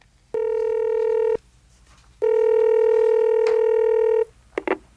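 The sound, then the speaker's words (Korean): Two steady electronic telephone ringing tones, a short one then a longer one separated by a pause, clear with no voices, followed by a couple of faint clicks, as a call is placed from a mobile phone to the last dialed number, the National Student Short Film Festival. “프로스트는 지연의 핸드폰에 찍혀있는 마지막 발신 번호로 전화를 걸었다.”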